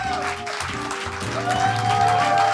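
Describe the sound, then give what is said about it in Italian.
An audience at the show Il suggeritore Nightlife claps steadily for everyone present, a dense wash of many hands at moderate loudness, with a sustained musical tone running underneath and no voices. “Allora, buonasera, un applauso a tutti quelli che sono qua di 20.”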